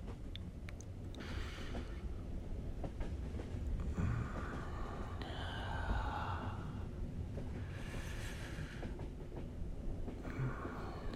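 A train rolls along the tracks with a steady low rumble and faint rhythmic clatter, heard from inside a carriage, with occasional soft breathy sighs.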